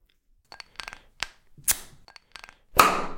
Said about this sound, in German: Ja, und auf jeden Fall, jetzt machen wir uns ein Fever Tree auf.